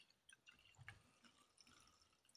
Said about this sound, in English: Okay, so I think there's enough space on my glass to pour the remains of my bottle.